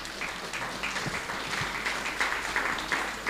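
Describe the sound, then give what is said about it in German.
An audience at a Borussia Dortmund fan evening event applauds steadily, a dense wash of many hands clapping at an even level with no pauses, continuing through the whole clip without any voices standing out. “da kann man gerne klatschen, absolut.”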